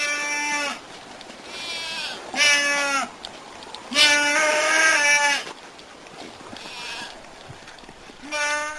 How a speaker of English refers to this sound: let's get the sound right here of Nubians, the kind of goats that Brad Kessler kept and keeps, known as the most vocal of goats